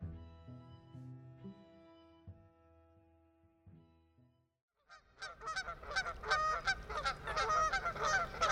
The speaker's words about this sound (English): That might be a familiar spring sound to some. Is that a goose call?